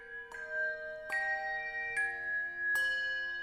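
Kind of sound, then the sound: signal or alarm, ringing bells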